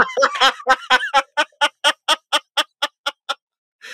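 Parrots at a zoo squawk in a rapid run of harsh, harmonic calls: a jumbled burst at first, then about a dozen evenly spaced, fairly high-pitched squawks that gradually soften, with no voices.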